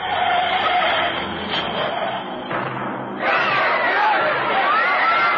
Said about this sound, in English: aiming an 8-cylinder 3080cc Meridian, turned the corner into 24th, saw the oncoming traffic and mounted the sidewalk and hit the crowd outside the movie house.